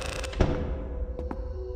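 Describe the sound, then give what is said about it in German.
A large heavy door in a large chamber thuds shut with a single deep boom that rings out, followed by a couple of faint metallic clicks as it settles. “Großer Schlüssel, große Kammer, große Tür, die zufällt.”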